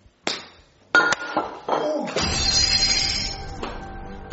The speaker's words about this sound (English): Oh, no, you broke the flower vase.